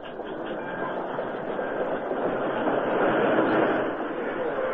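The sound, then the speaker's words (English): A train from Kansas rumbles steadily as it pulls into and stops at a town's railroad station, a dense, continuous roar of wheels and carriages with a faint rhythmic clatter, loud throughout. “Todd Lyons waited at the town's railroad station as the train from Kansas stopped there”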